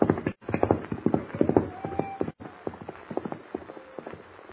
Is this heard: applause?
no